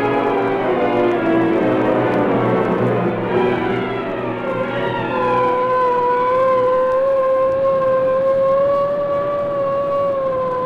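A loud police siren wails continuously on a police car hurrying through city streets, its rising and falling tones sliding and shifting in pitch as if the car races past, with no one speaking.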